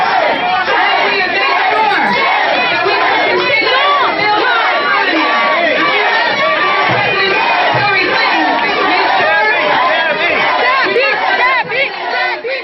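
Members of the Florida delegation at a convention breakfast boo and chant at the party chair, many voices overlapping in a dense, sustained roar of disapproval with rhythmic shouting throughout.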